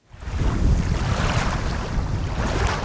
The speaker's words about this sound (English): A slight breeze ripples water from the southern end of Long Lake onto the property